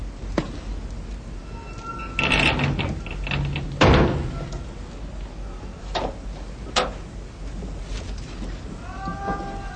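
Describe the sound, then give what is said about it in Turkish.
A door shuts with a heavy thud, preceded by a brief scraping swing and followed by a few lighter knocks and clicks against a low, steady background rumble. “Kapat şu kapıyı.”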